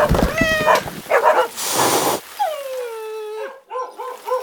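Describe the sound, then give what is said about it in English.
A loud tangle of animal noise: dogs bark and whimper while cats yowl with long drawn-out meows and a harsh hiss, like a brief scuffle between them. “it's raining cats and dogs. Goodness gracious. You look at all them fight as they hit the ground.”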